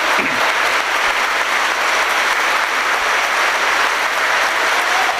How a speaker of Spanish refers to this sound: El aplauso aquí por la mención que ha hecho al trabajo de los laicos y laicas de Osorno en este tiempo difícil de nuestra iglesia de Osorno.